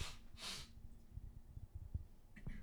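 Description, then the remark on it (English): A couple of sharp breathy bursts, then a low, rumbling throat clearing in short rough pulses, muffled and fairly faint as if turned away from the microphone. No one speaks. “I'm sorry, I got to keep moving away from the microphone to clear my throat.”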